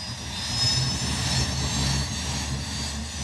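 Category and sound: vehicle, propeller airplane engine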